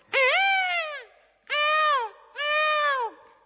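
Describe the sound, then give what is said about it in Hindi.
A mimic imitates a peacock call, the first sound heard on arriving at Mount Abu, three times: loud, wailing cries with a rising then falling pitch, each about a second long, separated by short pauses. “ये मोर का आवाज था”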